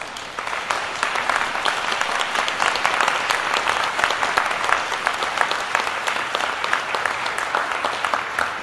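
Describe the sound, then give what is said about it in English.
A large audience of graduates at a graduation ceremony claps in sustained, dense applause for those who supported them, a steady wash of many overlapping hand claps that holds at an even loudness throughout without any talking. “Look around you and give a big round of applause to all of those who have supported you over the years.”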